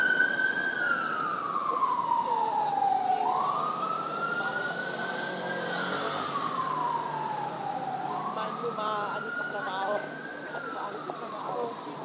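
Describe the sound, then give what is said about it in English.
An emergency vehicle siren wails in slow, sweeping rises and falls, loud and steady throughout over a wash of street noise, completing about three full cycles. “Oh, I think we should record the siren first.”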